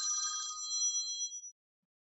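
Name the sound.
telephone ringing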